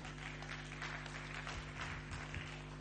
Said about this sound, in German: Ja, Amen. Ihr dürft auch gern Beifall klatschen für den Herrn natürlich.